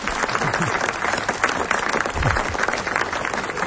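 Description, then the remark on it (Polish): An audience at a celebration at the Franciscan monastery in Prudnik, Poland, applauds the Franciscans, a dense wash of many hands clapping at an even, sustained level without pause for the whole stretch. “A ponieważ to dzisiejsze spotkanie to nie tylko oczywiście brawa dla franciszkanów, bardzo to lubimy.”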